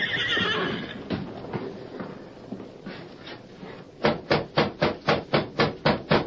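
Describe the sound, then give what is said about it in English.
A nervous horse named Silver gives a shrill, wavering whinny, snorts and shifts restlessly, then stamps its hooves in a steady run of about eight sharp, loud thuds. “Hey there, Silver. Why are you so nervous? Take it easy, Silver.”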